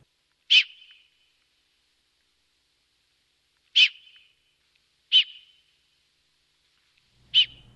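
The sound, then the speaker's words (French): An alpine ibex gives four sharp, high whistles through its nostrils, each a brief piercing blast with a short fading tail, spaced irregularly with silence between them. “c'est le sifflement qu'émet un bouquetin par ses naseaux”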